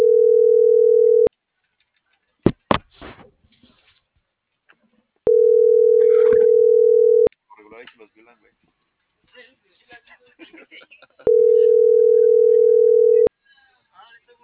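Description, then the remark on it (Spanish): A steady telephone ringback tone sounds three times while a call is being placed, each tone about two seconds long with long pauses between, while people talk and rustle in the gaps. “Le voy a marcar.”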